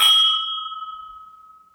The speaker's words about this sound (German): Die hallen noch schön nach, die Gläser.